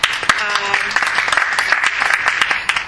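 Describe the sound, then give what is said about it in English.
An audience applauds steadily for about three seconds, a dense, crackling wash of many hands clapping at once, with a brief tonal voice or cheer rising through the noise early on. “I don't say that for applause, although thank you very much, because you know I'm a big ham.”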